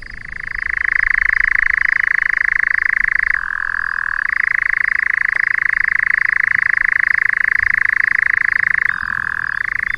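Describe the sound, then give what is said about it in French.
A European nightjar churrs at night without a break, a loud, steady mechanical trill that dips briefly to a lower pitch twice before returning, heard alone. “Alors là, il ne s'agit pas d'un crapaud, mais de l'engoulevent d'Europe.”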